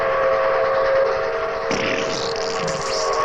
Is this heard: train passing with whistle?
yes